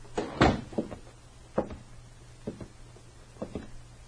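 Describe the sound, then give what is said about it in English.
A bank door in Morriston is pushed shut by men with a heavy wooden thud, followed by a few lighter clunks and rattles spaced over several seconds, over a faint steady low hum. “They exchanged nods, and apparently satisfied, the men closed the door.”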